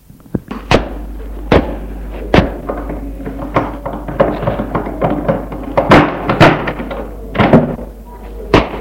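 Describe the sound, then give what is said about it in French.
The back door of a house is handled as people go out through it: a string of sharp wooden thunks and knocks, with scraping and rattling in between, as it opens and then shuts with a firm thud. “Ils sortent de la maison par la porte de derrière.”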